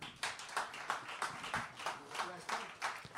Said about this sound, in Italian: Stasera sarà dedicata prevalentemente alla poesia, al rap, alla spoken word, e soprattutto la dedichiamo in memoria di Alberto Dubito, per cui vi chiedo prima di tutto un grande applauso.